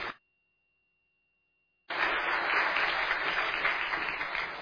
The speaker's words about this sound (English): Let's give him a round of applause to show our appreciation.